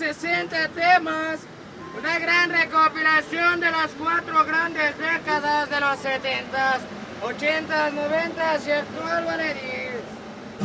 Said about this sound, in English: Pirated goods are everywhere in Mexico City. On the subway, vendors burst into the cars, blaring music from boomboxes that they've specially fitted into backpacks.